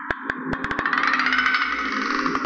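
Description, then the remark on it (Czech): A tree branch scraping against window glass on a windy, moonlit Halloween night: a continuous raspy, squeaky scrape with a series of sharp, irregular taps, mostly at the start and end, holding a steady level with no voices. “Škrábání větve oslo.”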